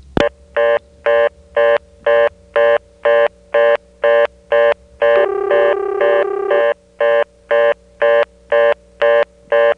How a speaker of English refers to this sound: And before I go, we'll call a ringing Kenley number through the callback circuit, and I'll just superimpose a reorder on top of the ring.